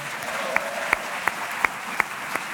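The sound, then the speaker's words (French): An audience in a show applauds the deputy editor-in-chief steadily in a dense wash of clapping, with sharper, louder claps cutting through at an even, regular beat, roughly three per second. “Si jamais il obtient moins d'applaudissements que Quentin, qui est son grand rival dans l'émission, parce que oui, pour lui, Quentin est grand, il risque d'être chafouin.”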